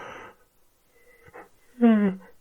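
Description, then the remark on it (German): A person performs a deliberate yawn as a voice exercise: a breathy intake of air, a brief pause, then a loud, drawn-out voiced sigh that falls in pitch. “Seht, ich habe erstmal gegähnt oder hört es, ich habe erstmal gegähnt und dann am Ende, wenn das Gähnen vorbei ist, einfach so ein Njam, Njam, Njam, Njam ausplätschern lassen.”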